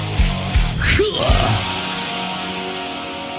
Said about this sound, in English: The greatest live shows and that cheering crowd sound.